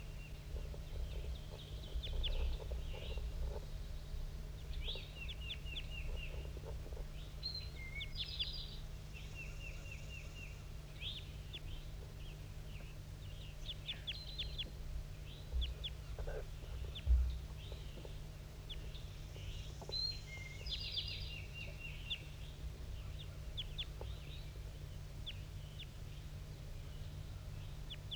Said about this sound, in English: I'm recording at 7:18. That wild male is still up in the top of the dead pine, giving flight calls.